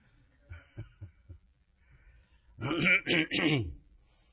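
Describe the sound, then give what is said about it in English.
A few soft, low throat-clearing grunts, then three loud, harsh coughs in quick succession, with no talking; the cough is caused by pollen. “Sorry about this cough and so on. It's the pollen.”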